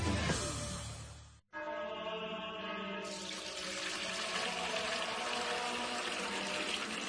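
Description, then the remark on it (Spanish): Fuente Umbría spring water pours steadily into a container, a broad rushing splash whose pitch slowly shifts as it fills, after a brief gap; continuous and fairly loud, with no voices. “Padre Gilberto, ¿qué hace? Hermano Pedro, es que no nos quedaba agua bendita.”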